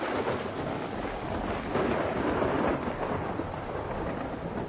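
Thunder rumbles through a steady, dense wash of storm noise, a continuous roar that swells slightly midway with no pauses and no voices.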